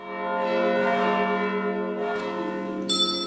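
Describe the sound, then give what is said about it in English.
Church bells ring out in a rich, sustained peal from the towers of a church that holds four bells, their overlapping tones humming continuously with no pause, and a brighter bell strikes near the end; fairly loud, with no voices. “It is very interesting that there are four bells in the towers.”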